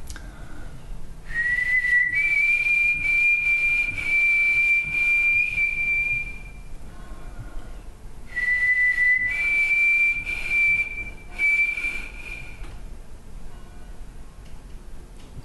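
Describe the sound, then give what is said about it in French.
A person whistles the song of a white-throated sparrow, the bird called "Frédéric" in Quebec and a voice of the Quebec forest, twice: each phrase opens on a lower pure note, then steps up to long, steady high tones. A pause separates the two phrases, and no one speaks. “Et je vais vous faire le chant du Frédéric, qui est l'oiseau qui est une voix de la forêt québécoise.”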